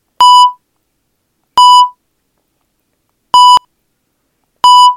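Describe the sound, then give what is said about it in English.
Four short electronic beeps sound alone, loud, spaced unevenly over a few seconds; the third is a quick double blip while the others ring slightly longer with a brief tail. “That beeping sound indicates that we are going to take some time out to introduce the optional enrichment assignment”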